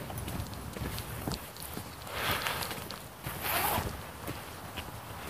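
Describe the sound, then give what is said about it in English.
A coat zipper is pulled in two quick, raspy strokes over a steady rhythm of walking footsteps outdoors on a cold morning. “Zip my coat.”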